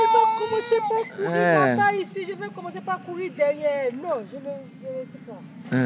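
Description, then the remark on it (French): A toddler whimpers and cries in wavering, drawn-out wails that rise and fall, fairly loud, with short pauses between strained sobs for several seconds. “Non, ne pleure pas.”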